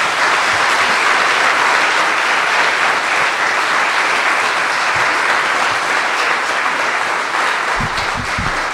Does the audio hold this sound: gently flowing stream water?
no